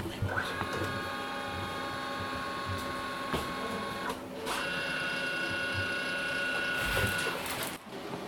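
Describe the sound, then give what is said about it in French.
A printer runs steadily, printing letters, its whirring mechanism humming with clicking and ratcheting as pages feed through, and a couple of brief louder clunks near the end, with indistinct voices in the background. “Donc là, c'est pour faire les courriers. On imprime les courriers.”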